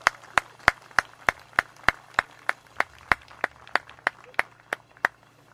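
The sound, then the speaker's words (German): Steady, rhythmic applause honouring the Leipzig plant management, also hit by layoffs, evenly spaced sharp claps, about three per second, moderately loud, with a faint low hum beneath and no talking. “Und ich denke, die sollten wir mit einem Applaus hier an der Stelle auch mal würdigen.”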